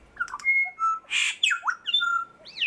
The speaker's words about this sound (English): So I've grouped them all into about 700 types, which means then I can look at how a song is made up. Like each syllable now has a label, which means I can compare two birds and see if they are singing the same type or not.